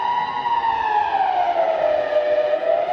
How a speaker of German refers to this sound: Ja, und kommt dann ganz auf die Sirene drauf an, also was für ein Todes ist, ob es Wasserschaden ist oder Luftangriff.